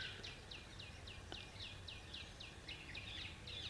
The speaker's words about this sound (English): If you deny these singing birds, then something in you is denied.